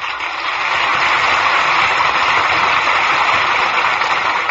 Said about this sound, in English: Your applause is a cue for our stars to return for a curtain call. And here they are, Joseph Cotten, Valley, and Louis Jordan.